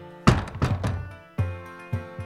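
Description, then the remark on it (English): A door is shut with a heavy wooden thunk, followed by several more low, booming thuds that ring out briefly, with no voices. “Alfred, shut the door behind you.”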